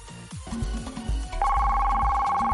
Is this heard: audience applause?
no